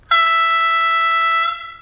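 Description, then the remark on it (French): A single sustained, high-pitched vehicle horn blast, loud and steady for about a second and a half, then cutting off with a brief fade. No voices. “Klaxon aigu.”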